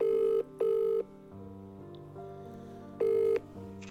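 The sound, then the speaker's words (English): A telephone rings as the 102.5 FM Sound Art Radio studio calls a guest: short, loud buzzing pulses, two quick tones back to back, a pause filled with low hum, then a third identical tone. No one speaks. “So we're going to give her a ring now and see what is going on.”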